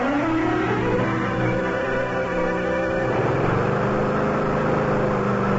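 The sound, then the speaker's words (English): A lawn mower engine drones steadily and loudly as the lawn is mowed, its buzzing pitch dipping and shifting partway through before settling into a lower, even hum. No voices are heard. “They're just mowing the lawn, Mr.”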